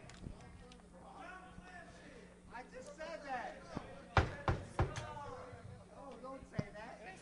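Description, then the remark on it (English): Several sharp knocks on a hard surface to buzz in, a quick cluster of three followed by a single later rap, loud over ongoing conversation and background voices. “The next false knock will lose points.”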